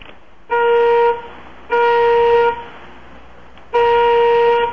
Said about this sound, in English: We fixed it. We just need to test the volume now. Give me 3 more good honks of the horn.